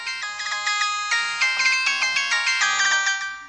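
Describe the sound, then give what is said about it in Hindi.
A bright electronic ringtone melody plays steadily for a few seconds, clear and fairly loud with no one talking, like a phone ringing while a call connects. “ना मन बा, रुका, अभी ये तहार भैया के फोन लगावत हैं, सब बात बतावत हैं।”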